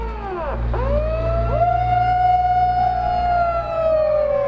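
A loud electronic siren screeches through a megaphone on a tour bus heading through a long tiled tunnel, its pitch swooping sharply down and back up several times before settling into a long, steady wail over a low rumble.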